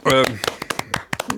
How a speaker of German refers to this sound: Applaus.